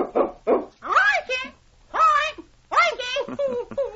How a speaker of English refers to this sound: listen to that bird. He hasn't forgotten King's name. He remembered it as soon as he heard it.